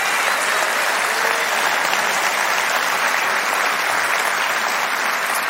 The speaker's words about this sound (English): And I think he's worthy of our praise today. And I wonder if we can just applaud our God for what he's doing.